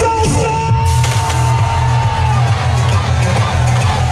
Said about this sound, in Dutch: De spelers van Telstar worden gehuldigd op een plein in IJmuiden. Na 47 jaar spelen ze volgend seizoen weer in de Eredivisie. Ze worden toegejuicht door duizenden stampende supporters.